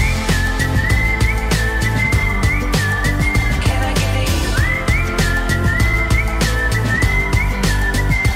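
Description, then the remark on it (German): A bright whistled melody rides on top of a full pop backing track with steady drums and bass, the whistling clear and prominent throughout, with no voices. “In der Popmusik wird momentan wahnsinnig viel gepfiffen. Zum Beispiel hier auf dem brandaktuellen Album”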